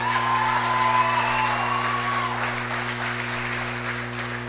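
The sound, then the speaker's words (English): A pageant crowd applauds the newly crowned 2018 Miss Lawrence County with dense, continuous clapping, joined early on by high whoops and cheers that fade as the clapping carries on at a strong, even level. “And now give a round of applause for your 2018 Miss Lawrence County”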